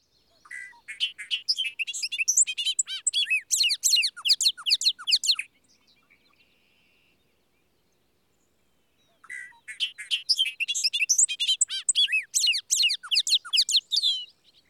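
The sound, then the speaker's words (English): A male bobolink's bubbly, meandering song pours out in two long bursts of rapid, jangling, tumbling notes, separated by a few seconds of silence, clear with no talking; breeding-season song from tall grasses in spring or early summer. “Bobolinks nest in the tall grasses, and males are particularly conspicuous in their distinctive buff, black, and white breeding plumage, and by the bursts of their bubbly, meandering song in spring and early summer.”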